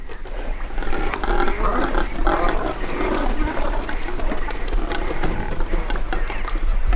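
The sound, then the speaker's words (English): Cormorants grunting at a nesting colony on a shipwreck partially out of the water near South Manitou Island, a dense chorus of many overlapping guttural croaks and grunts that carries on steadily and fairly loudly throughout, with no pauses. “He wrote that they eat and defecate, quote, inordinately, and have no song to charm, only grunts. These are cormorants near South Manitou Island.”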